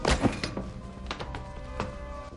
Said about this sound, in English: Renard wallops one of the unconscious men.